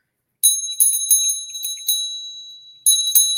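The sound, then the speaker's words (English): A hand bell with a K on it is rung briskly several times, its bright, high ringing tone overlapping and sustaining, with a brief pause before a final pair of strikes. Fairly loud, no voices. “They want me to ring this bell.”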